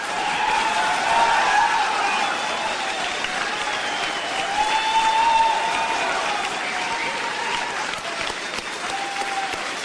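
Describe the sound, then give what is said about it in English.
A large crowd claps steadily and loudly for Kevin Mitnick, a dense, sustained wash of applause that holds at an even level for about ten seconds with no voices on top. “Before I begin, I will be playing this for Kevin over the phone sometime this week, and the first thing I would like for him to hear would be a good round of applause from everybody.”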